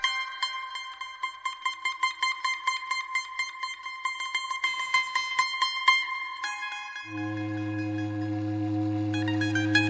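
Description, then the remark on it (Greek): A rhythmic run of bright, repeated tones gives way to the deep, loud whistle of a ship entering the harbor of New Orleans, sounding one long, steady blast for the last few seconds. “σφύριγμα πλοίου που μπαίνει στο λιμάνι της Νέας Ορλεάνης.”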